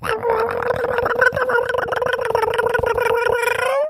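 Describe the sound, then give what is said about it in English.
A person imitates a heavy pet cat's meowing as she comes running: one continuous voiced wail pulsing in a quick, steady rhythm matching her steps, ending on a rising upward note, loud and with no other talk. “So her meows go in rhythm with her steps. It goes, and it ends on an up note.”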